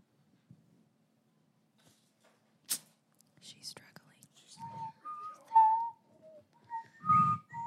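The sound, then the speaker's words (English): Someone whistles a short, wavering tune very close to the microphone, the notes loud and breathy, after a few soft puffs and rustles. “You really can't whistle into the mic.”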